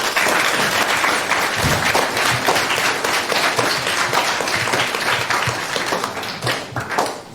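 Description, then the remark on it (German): A crowd applauds steadily for a band, a dense wash of many hands clapping at full volume for the whole stretch, easing off slightly near the end. “Von daher einen riesigen Applaus für ….”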